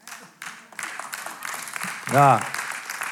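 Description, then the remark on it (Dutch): Scattered applause from a few older people in an audience, a few sparse claps rising briefly and fading, with a man's voice speaking over it. “Zijn een paar ouwen die nou klappen.”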